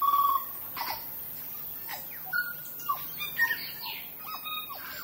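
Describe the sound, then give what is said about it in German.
Over a dozen native New Zealand forest bird species, nearly extinct in the wild, call over one another in a reserve of dense bushes and trees: clear whistles, sharp chirps and short squawky notes in irregular bursts, with no voices. “Überall sind kleine und größere Pfade durch dichte Vegetation aus Büschen und Bäumen angelegt und man hört über ein Dutzend einheimische Vogelarten, die in freier Natur so gut wie ausgestorben sind.”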